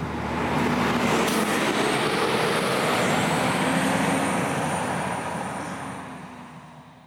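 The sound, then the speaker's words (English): A loud, steady rumble of a bus engine fills the scene, then slowly fades as the bus pulls away. No voices are heard. “Stop, stop, stop. Stop the bus.”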